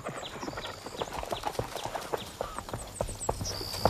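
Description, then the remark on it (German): A horse's hooves clip-clop in a steady, uneven rhythm of sharp knocks as a girl rides the horse, Flocke, over a riding course toward the onlookers, with faint bird chirps above and no talking. “Da, das Mädchen reitet uns entgegen.”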